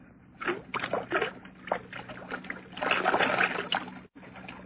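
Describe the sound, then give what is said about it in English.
Whiskey glugs and splashes as most of it is poured out of a half-full bottle, in uneven gurgling pulses that swell into a steady stream before a brief break and a final trickle. “There's the whiskey, still half full. Pour most of it out, so that it will look as though we had even more to drink.”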